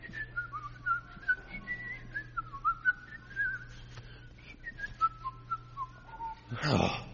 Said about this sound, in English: Can you whistle a little? Just whistle a little bit.